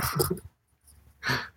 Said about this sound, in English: Look at this box. It's barking at me. Just open the ribbon. A puppy!